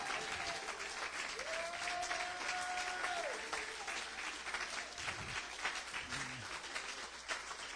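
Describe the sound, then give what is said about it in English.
A church audience claps steadily in dense, sustained applause praising the Lord, with a sustained shout or whoop rising above it early on and a few lower vocal cries near the end. “Come on, clap those hands and shout.”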